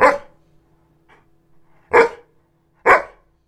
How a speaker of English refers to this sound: Step two, after you've mastered tempo comprehension, the next Dog Duolingo section requires you to know some terms, like the difference between tone and noise in a bark.